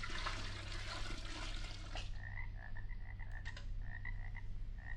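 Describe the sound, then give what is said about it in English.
About a gallon of magic Transylvanian swamp water pours and gushes loudly for about two seconds into a magic potion, then gives way to a steady chorus of frogs croaking in quick repeated bursts over a low rumbling background. “Instead of nightingale's tongues, I'll pour in some magic Transylvanian swamp water, about a gallon's worth.”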